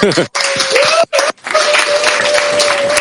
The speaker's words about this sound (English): We're so happy to be with you here, to welcome everyone to the North America Congress, which officially is starting now. Yeah, we can clap if you want.